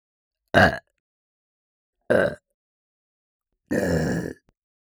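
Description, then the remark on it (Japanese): Three loud burps in a row with pauses between them: two short ones, then a longer, drawn-out third. There's no talking, just silence in the gaps. “お気に召すゲップですか？もっともっと頑張りますね。”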